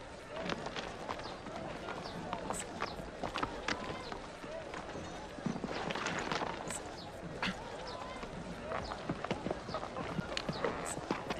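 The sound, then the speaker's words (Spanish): Horse hooves clip-clop in a quick, steady rhythm, the sharp strikes repeating over a busy, noisy background for the whole stretch. “Monta en tu caballo y sígueme a donde yo vaya.”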